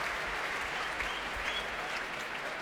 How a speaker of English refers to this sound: That's the applause for tonight's leader of the orchestra. And here he comes, Stephen Bryant, to lead the orchestra, which is at the heart of this great festival.